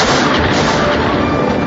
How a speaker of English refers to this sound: The grav truck exploded.